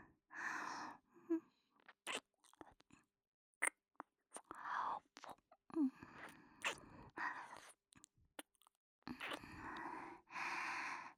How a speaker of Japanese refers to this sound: エッチな吐息漏れちゃってますよ。